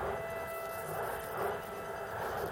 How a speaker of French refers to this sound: Entends-tu ces trains? Ces trains dans la nuit. Ils emmènent d'autres gens vers d'autres lieux. Tu les entends, Fritz. Moi, je ne veux plus les entendre.